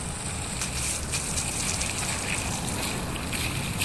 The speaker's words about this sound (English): Let me take the hose before my mother sees and rinse off all the cement off my bike. Here we go. Got it. Water on.